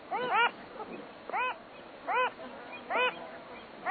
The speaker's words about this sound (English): The dictionary defines anomaly as something difficult to classify, a departure from the rule. If any bird meets that description, it's the Wilson Phalarope.